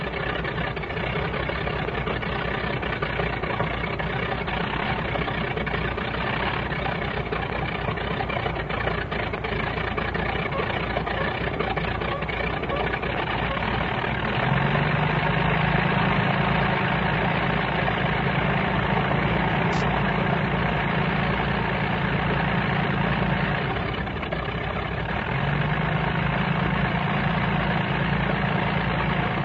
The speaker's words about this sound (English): It's dawn. It's quiet. Hear him talking? Hear the primer squeaking on the other one? They're trying to get the other one going. There's two planes on the runway. Here, the other one's breaking in.